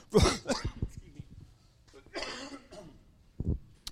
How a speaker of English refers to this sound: I picked up this cough in India and I just can't get rid of it.